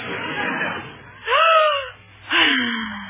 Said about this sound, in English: What is that? Her breathing exercises, Maestro. In yogi, they say if you breathe deeply, all the poisons leave your system and you can think clearly.